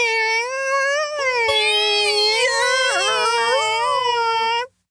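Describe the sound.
A voice imitates a creaking door squeak: one long, loud, strained tone of almost five seconds that wavers and bends in pitch, then cuts off abruptly.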